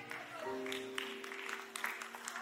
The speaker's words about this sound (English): And y'all are clapping like y'all are at a golf course, and I'm talking about a basketball analogy.